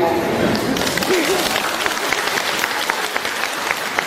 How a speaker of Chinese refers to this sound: 啊，这次比较自觉，我没叫你们就鼓掌了。